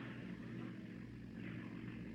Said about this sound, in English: It's a car. That's what it is. A car all the way up here.